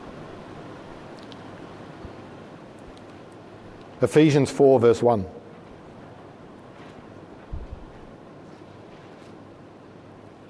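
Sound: heavy rain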